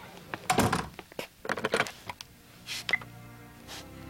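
A door is pushed shut, a heavy thunk followed by a few shorter knocks and rattling clicks, then a softer brushing sound and a small latch click as it settles.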